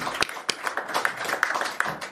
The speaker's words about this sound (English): Please give Gabby a huge round of applause, because that was beautiful.